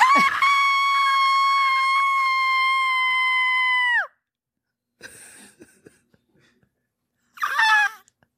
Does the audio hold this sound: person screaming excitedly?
yes